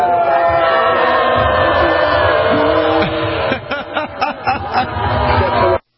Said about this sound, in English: Have you seen that video? Yeah, I have. It's hard to hear what he's saying and everybody's just screaming no.